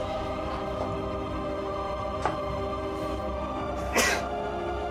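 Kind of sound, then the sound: human body sound, sneeze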